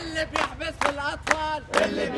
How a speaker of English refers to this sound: Every Friday, crowds of Egyptians gather in Cairo to chant slogans against their military rulers.